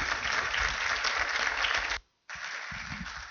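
A crowd at PCC church applauds a man as he comes forward to speak. A dense, sustained wash of applause is broken by a brief silent gap before the clapping resumes at similar strength.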